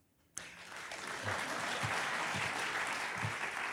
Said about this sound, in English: And I'll know you're really polite if you applaud for her, because you haven't heard of her yet, though you will.